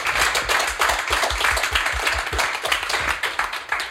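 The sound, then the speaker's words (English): An audience applauds steadily, a dense wash of many hands clapping at a fairly loud, even level for several seconds with no voices over it. “Round of applause.”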